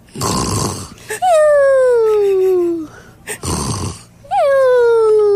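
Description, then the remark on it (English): A voice imitates Santa snoring: twice, a harsh, raspy snort is followed by a long, loud, drawn-out exhale that slides downward in pitch, with no other sounds around it. “Does Santa snore? Yes.”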